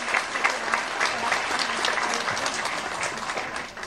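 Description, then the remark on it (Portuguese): Steady applause from an audience for the Brazilian social movements represented there, many hands clapping in a dense, crackling wash that holds at an even level for several seconds with no voices standing out. “Então eu queria uma salva de palmas aos movimentos sociais brasileiros que vocês estão representando nesse momento aqui.”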